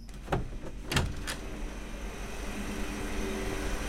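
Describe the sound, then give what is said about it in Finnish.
A steady, droning hum of pumps and other equipment and machines, with low tonal layers, broken early on by a few sharp mechanical knocks before settling into an unbroken whir. “Joo, täällä hurisee sen takia, että tuolta tilasta kaikki pumput ja muut tämmöiset laitteet ja koneet tuodaan ulos ja sisään viedään vaan putkia, letkuja, johtoja sun muita”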